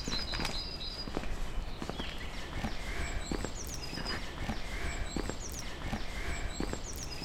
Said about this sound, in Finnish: Me ollaan menossa nyt sun lempipaikkaan. Kävellään tämmöistä mukulakivikatua.